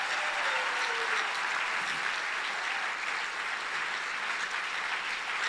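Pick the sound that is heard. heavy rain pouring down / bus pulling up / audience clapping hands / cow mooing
audience clapping hands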